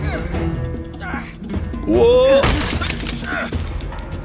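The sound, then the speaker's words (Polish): A lamp shatters with a loud, bright crash of breaking glass, its sharp tinkling burst standing out over a busy, continuous background of game sounds and voices. “Okej, lampa.”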